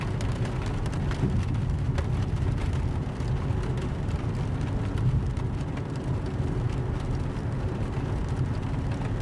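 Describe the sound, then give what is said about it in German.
A steady, low car engine hum drones on continuously at an even level, with a soft hiss of rain layered over it and no voices. “Du hörst noch ein paar Takte ruhiger Musik, dann nur noch das Summen des Motors und den gleichmäßigen Klang des Regens.”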